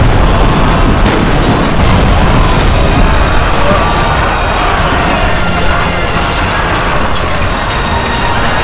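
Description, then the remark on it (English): Loud, dense fire from Texan cannons loaded with rocks, rusty chain and broken musket pieces, shot across a plaza at Santa Ana's Mexican soldiers, rolls on without a break, heavy booms blurring into a continuous roaring rumble with gritty crackle on top, like a battle barrage. “The cannon roared, and the rocks and bits of rusty chain and broken pieces of muskets cleared a path 50 feet wide right down the center of the plaza, hurling bloody chunks of Santa Ana soldiers in all directions”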